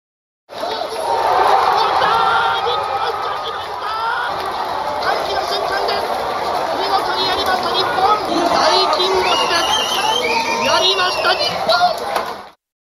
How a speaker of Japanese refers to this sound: 日本代表勝利の瞬間、東京都内で行われたパブリックビューイングでの大歓声